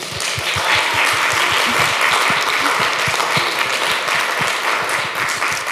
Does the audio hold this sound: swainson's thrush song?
no